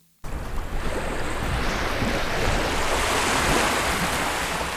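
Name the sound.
sea waves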